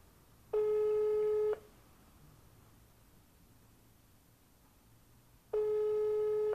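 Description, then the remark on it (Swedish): A telephone ringback tone from an outgoing call: two steady, buzzy one-second tones separated by a long silent gap of about four seconds, clear over faint background hiss. “Nu ringer vi.”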